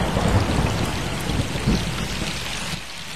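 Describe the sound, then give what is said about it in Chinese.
Steady heavy rain hisses throughout while low, rolling thunder following lightning rumbles beneath it, swelling briefly a couple of times before easing off. No voices. “快捂着耳朵，马上就要打雷了。”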